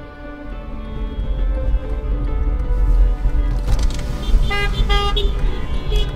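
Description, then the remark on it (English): Several car horns honk from a caravan of almost 100 cars over a steady low engine rumble, sustained tones at first, then a denser burst of overlapping short toots in the second half, fairly loud. “Let's make some noise. Honk your horn.”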